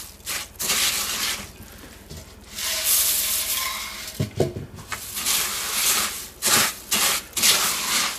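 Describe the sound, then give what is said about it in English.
Crisp rice bubbles (rice crispies) are stirred into a sticky melted mixture, about a cup at a time, producing repeated scraping, crackling rustles in uneven strokes with brief pauses between them, moderately loud and with no one talking. “Pour in about a cup at a time and just mix it in.”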